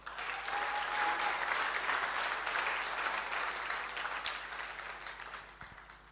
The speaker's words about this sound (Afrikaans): Kom ons gee vir Here 'n lekker hande klap.